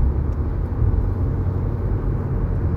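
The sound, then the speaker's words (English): Steady low rumble of road traffic, a dense wash of car engine and tire noise that stays loud and continuous throughout with no voices. “Fucking motherfucking traffic.”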